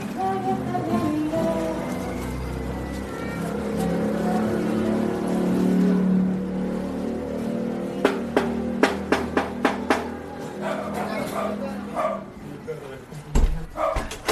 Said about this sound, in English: As we approach to the door, amidst the street noise, we can already hear music drifting down from the third floor of this house.